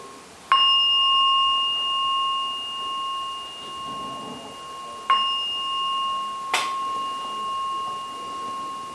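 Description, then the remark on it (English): A meditation bell is struck three times at the end of a meditation session, each strike leaving a clear, sustained ring that slowly fades; the first two strikes are spaced several seconds apart, the last follows sooner, with no voices. “After the three ringing of the bell, gently, calmly, kindly come out meditation.”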